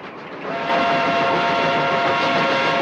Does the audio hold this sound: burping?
no